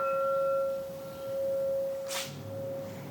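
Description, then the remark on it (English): A wine glass in a tasting room is tapped with a soft mallet and recorded with a field recorder. It rings out in a pure, steady mid-pitched tone with faint higher overtones, sustaining for about three seconds, broken briefly by a soft hiss near the end. “Inside the tasting room, he grabs a wine glass to demonstrate. So I would, with a field recorder and with a mallet, soft mallet.”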